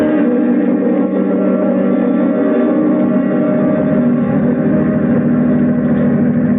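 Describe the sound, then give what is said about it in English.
A steady, droning engine hum runs throughout as a car drives a passenger home on a long trip, with a constant low rumble and no voices. “Well, it's good of you to drive me home.”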